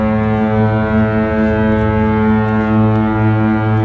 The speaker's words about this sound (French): Et oui, le bruit du bateau, ça nous rappelle les vacances.